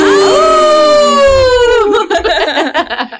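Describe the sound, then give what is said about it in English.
Several people howl together like hounds at the close of the radio show Brokers, Builders, and Bourbon on The Hound, 96.1 FM: a loud drawn-out wail that swells and slowly slides downward for about two seconds, then dissolves into choppy laughter. “Come on, did you get your howl in?”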